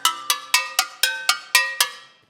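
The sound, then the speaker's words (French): Eight bright metallic clanks as the tin cans on the portable version of a homemade instrument are struck in an even, steady rhythm, each ringing briefly with a tinny, bell-like tone before fading; no talking. “Je vais avoir les boîtes de conserve.”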